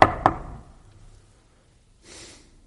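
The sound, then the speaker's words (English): Two quick, firm knocks on a door, loud, each ringing out briefly, followed after a pause by a short, soft breathy hiss. “And when the five foolish virgins arrived at the banquet hall, they also knocked on the door.”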